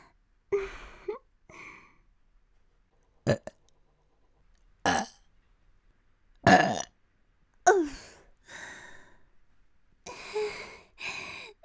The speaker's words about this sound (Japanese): ザーメン濃すぎです。精液ゲップ登ってきてしまいます。